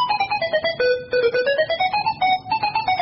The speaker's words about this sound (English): What's that? Mobile phone.